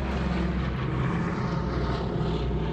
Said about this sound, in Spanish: Primero vienen unos aviones que eran los aviones con nuestros paracaidistas que pasan por arriba de nosotros y entonces se tiran los paracaidistas.